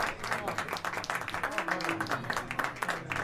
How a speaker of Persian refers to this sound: تشویق بفرمایین، همچنین مادر بزرگوار ایشون رو.